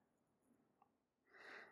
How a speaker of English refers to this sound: Think about being in a French kitchen, in a brigade system, and then you probably hear the pages turning. Somehow I've misplaced my page.